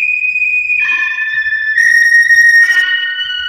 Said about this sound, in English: Then from the south came a sharp whistling sound.